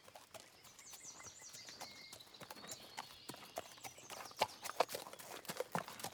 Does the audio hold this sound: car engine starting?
no